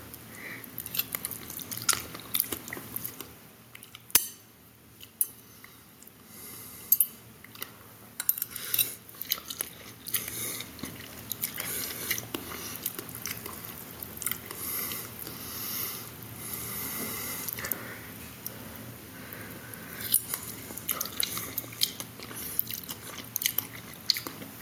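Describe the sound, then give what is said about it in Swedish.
Someone eats chicken noodles, with wet chewing and slurping broken by frequent light clinks of cutlery against a dish, a steady irregular patter of small sounds for the whole stretch, with no talking. “Ja, och då är det liksom det här är vad jag lagade, det var kycklingnudlar.”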